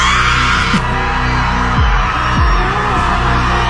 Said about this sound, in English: And over the weekend at Trinity Bellwoods, somebody held a group scream. She put it out on TikTok and hundreds of people showed up.